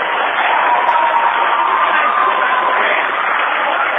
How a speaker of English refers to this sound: And you can hear this ruckus student section. Lots of emotion in this arena right now. Mitchell Memorial Gym. And the 1,000-plus fans at a fever pitch.